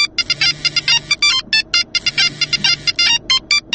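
A phone ringtone trills in rapid, repeating electronic bursts, loud, cycling twice through its pattern over a low rumbling background with no one speaking.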